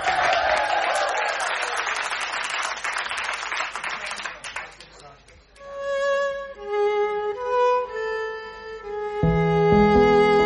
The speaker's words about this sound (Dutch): geef ze een heel groot applaus